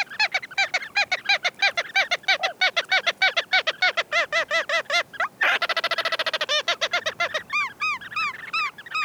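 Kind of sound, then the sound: bird, ross's gull calls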